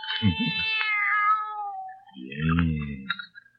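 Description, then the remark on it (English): A young kitten meows twice, fairly loud: a long, high, wavering cry followed by a shorter, lower, rising mew, with no voices over it. “Nobody's going to hurt you, kitty.”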